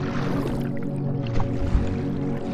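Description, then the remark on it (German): A boat rocks gently on lapping waves at the coast of Tasmania, with soft splashes and squishy knocks of the hull over a steady low rumble, continuous. “Leicht schwankt es auf den auslaufenden Wogen hin und her und lädt uns ein, an Bord zu kommen.”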